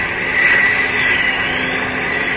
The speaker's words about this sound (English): Yes, that does sound like a plane. Above me and coming this way. Up! Up! It's a plane, all right. I'm sure of it. I can't see it yet, though.